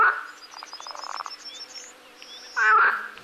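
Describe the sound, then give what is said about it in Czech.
Frogs croak loudly in a dense, rapid chorus of pulsing calls, with a burst of louder, nearer croaking toward the end; no one speaks. “Žáby mecne rakotajú.”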